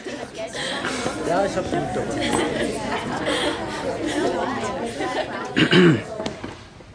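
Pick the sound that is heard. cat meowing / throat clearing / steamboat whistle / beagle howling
throat clearing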